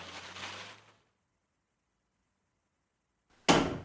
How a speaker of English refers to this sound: Ghoul jumps to his feet when the door bangs open